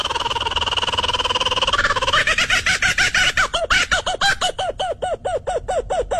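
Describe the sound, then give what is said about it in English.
A kookaburra's raucous mating call: a low churring chatter that builds into a loud, rapid run of repeated hooting, cackling notes, steady and rhythmic, with no voices over it. “And that's the mating call of a kookaburra.”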